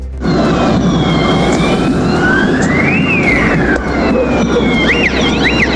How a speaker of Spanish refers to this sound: Claro, podíamos escuchar ahí distintas sirenas y estruendos que se escuchaban, digamos, en estos enfrentamientos en plena Alameda, a la altura de Estación Central, producto de los distintos desmanes que se estaban desarrollando